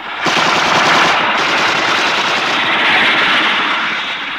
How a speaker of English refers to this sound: Destiny Angel, helicopter A-42 is firing at me.